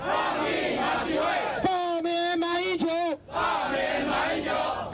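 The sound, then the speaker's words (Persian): A protest crowd in Taipei, Taiwan, marching against a meeting between the presidents of China and Taiwan, chants and shouts in unison, with a loud, sustained collective cry rising mid-clip over a steady roar of many voices. “راهپیمایی ها در اعتراض به این ملاقات در تایپه پایتخت تایوان آغاز شده است.”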